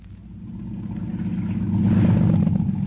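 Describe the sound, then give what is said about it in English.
A motorboat engine runs steadily with a deep, throbbing low rumble, growing gradually louder and rougher over a few seconds as if throttling up, with no voices. “I shut off the engine.”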